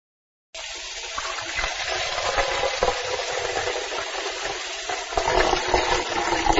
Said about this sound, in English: Let's make tea. First, turn on the tap.Then, put some water into a pan.